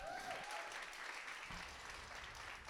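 An audience applauds steadily, a dense, even wash of clapping hands that holds at a fairly loud level throughout without words.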